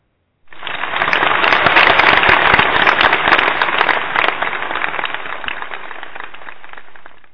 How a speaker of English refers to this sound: I just wanted to clap for that. I was going to say, was that for me?